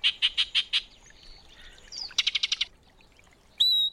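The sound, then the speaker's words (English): Calls of a yellow-breasted chat: a quick run of five bright, repeated chirps, then a faster burst of similar notes, and finally a sharp rising whistle with a sustained high tone, all without any talking. “When the northern summer declines, the yellow-breasted chat will make its way south to winter in Central America, until the springtime draws it north again.”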